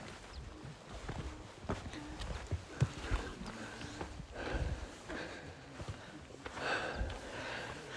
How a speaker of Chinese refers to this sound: 欧拉，哦，我们要现在要过两头驴，他不会踢我吧？ 你先过。